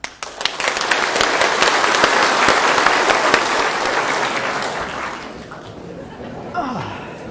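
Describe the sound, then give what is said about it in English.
A standing crowd claps steadily as an exercise to get oxygen going in their brains, a dense, loud wash of many hands that gradually thins and fades toward the end, with a few chuckles and murmurs mixed in. “Now some clapping.”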